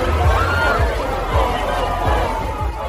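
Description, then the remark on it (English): A large crowd of thousands of people lining Ocean Drive and nearby streets in Miami Beach's Entertainment District murmurs and chatters continuously outdoors, a dense, steady wash of many overlapping voices with occasional louder shouts rising from the hubbub, like a busy street party. “Thousands of people have started lining up all along Miami Beach's famed Ocean Drive and a couple of streets beyond that.”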